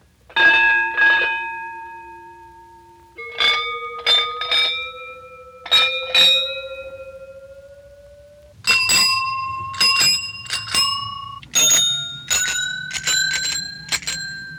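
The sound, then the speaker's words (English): A fire bell rings in quick bursts of clanging strikes, each cluster leaving a bright metallic tone hanging. The pitch steps higher over the sequence, and it sounds loud with no talking. “Like a fire bell.”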